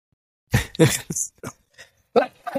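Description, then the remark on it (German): A run of harsh, irregular coughs: two loud bursts close together, then several shorter, weaker ones, and a final strong pair near the end, with no talking. “Ich schwöre, wenn ich huste, ich habe noch voll Kopfschmerzen.”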